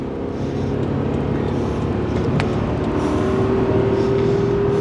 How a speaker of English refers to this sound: I keep expecting Chris to pull over, but instead he guns the engine and passes a slower car on the left.